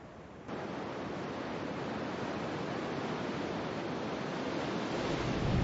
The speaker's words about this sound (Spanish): El agua liberada se abre paso a través del paisaje. Desde tiempos inmemoriales, su desbordante fuerza ha esculpido y tallado el mundo boreal.